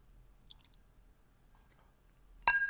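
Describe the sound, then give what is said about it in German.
Faint glassy clicks and clinks over a quiet background, then a sudden loud splashing rush at the very end as whisky is poured from a nearly empty bottle into a glass, with a bright ringing edge. Much of it spills beside the glass onto trousers and the floor. “Jetzt kommt Whisky zu den Fakten auf den Tisch.”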